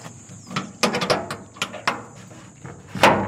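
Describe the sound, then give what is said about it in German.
A padlock securing the storeroom door of the Evaso primary school in Laikipia, in Kenya's central highlands, is handled and unlocked: a series of sharp metallic clicks and rattles, with a louder clack at the end, over a faint steady high-pitched hum. “öffnet das Vorhängeschloss, das die Tür zum Lagerraum der Evaso-Grundschule sichert.”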